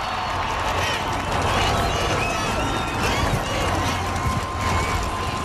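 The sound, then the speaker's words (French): A large crowd cheers and roars steadily as a new president walks onto a big stage and takes his place behind the podium, a dense wall of voices with scattered whistles rising above it, holding loud and unbroken throughout. “Le public, lui, est en liesse.”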